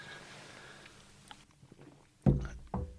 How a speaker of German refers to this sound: Jetzt stoßen wir nochmal an. Gute Idee, Prost.